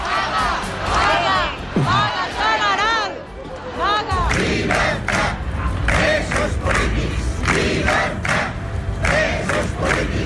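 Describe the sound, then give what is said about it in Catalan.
A large pro-independence street gathering in support of prisoners and against an operation targeting the Committees for the Defence of the Republic shouts and chants in loud, rising waves, voices overlapping into a dense roar with sharper cries breaking through, then settling into a sustained rhythmic chant that continues throughout. “I per això, un cop més ahir, les concentracions als carrers mantenien viva la protesta.”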